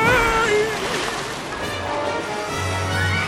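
Loud splashing and churning of seawater as a person is dragged overboard into the sea, a steady rushing wash like someone plunging in and thrashing about, with a low rumble underneath.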